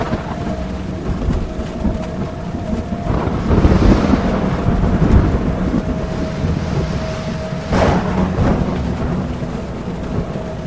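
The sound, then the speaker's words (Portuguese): A thunderstorm with heavy rain: steady dense rainfall and wind noise throughout, with low rolling rumbles swelling around the middle and a sharper burst near the end. No voices. “Com o temporal que caía, a visibilidade era quase zero.”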